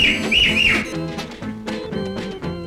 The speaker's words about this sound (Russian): Шо за дикий свист, красотку я спросил.